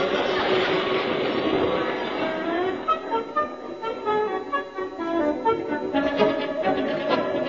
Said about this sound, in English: You were dead lucky that train went past just then.